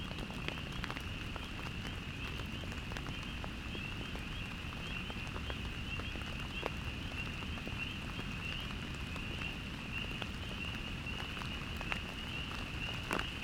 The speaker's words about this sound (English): The wind picks up, and soon it is raining.